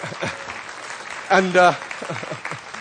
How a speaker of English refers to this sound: Give him a clap for volunteering and helping.